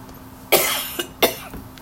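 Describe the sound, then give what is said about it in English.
A harsh coughing and choking fit: a loud, raspy cough followed by a short hack and another strong cough, with a faint trailing one, spread over under two seconds with no talking. “Excuse me, guys. I'm choking.”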